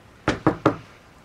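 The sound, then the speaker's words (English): A woman knocks three firm times on the front door of a house in quick, even succession, clear, while light rain falls, followed by quiet with no voices. “She knocks on the front door.”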